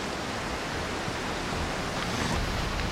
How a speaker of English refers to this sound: Look, you see there's a big rapids up there. Don't want to get tangled up with those.